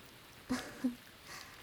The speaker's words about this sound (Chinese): 下雨天真的十分绝望啊，总觉得自己可能就再也见不到太阳了。听见打雷下雨，依旧会因为回忆起那些而不自主的颤抖呢。